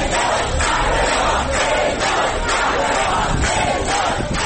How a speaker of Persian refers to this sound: مردمی که در سالن ورودی فرودگاه در تهران او را قهرمان می‌خواندند.